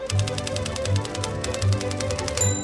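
Bright orchestral music plays with a steady, rapid run of crisp typewriter clacks keeping time over the strings and low accompaniment, fairly loud, with no one speaking.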